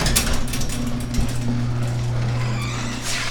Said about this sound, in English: Oh wait, we gotta close the garage door.